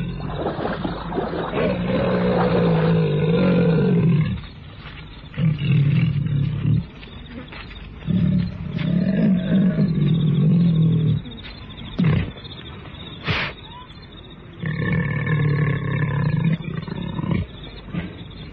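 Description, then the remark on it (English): A leopard roars and snarls as it attacks prey, holding it by the throat and worrying it: loud, deep, rasping growls in several long bursts separated by short pauses, with a sharp crack partway through and no talking. “He cannot cry out again, for the leopard has him by the throat, playing with him, worrying.”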